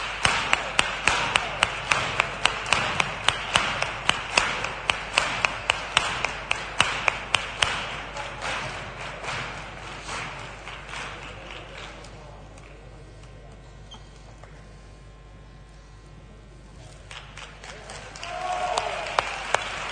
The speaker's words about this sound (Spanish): Así, nuestra corte infantil del Carnaval Colombino 2019. Un fuerte aplauso.